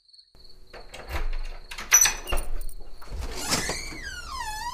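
A house door is opened by a mother to let her daughter in from the office, with a few clunks and a long, wavering creaky squeal of its hinges, while steady cricket chirping trills in the background.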